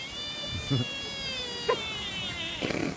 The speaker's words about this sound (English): And, Mike, we close with a bipolar Japanese deer. Here are two sounds that a deer knows how to make. I didn't know that deer made noises at all. It starts friendly and gets kind of ugly.